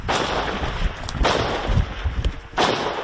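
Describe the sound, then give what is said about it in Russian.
Three loud hunting-shotgun blasts fired by engineering battalion soldiers at a Russian kamikaze drone, spaced about a second apart, each a sharp crack followed by a brief rumbling tail, with no talking in between. “Для этого даже используют охотничье ружье.”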